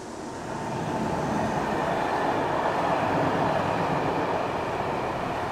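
A train rumbles steadily along the rails, a dense, continuous roar with low clattering that swells in over the first second and then holds loud and close throughout, with no voices.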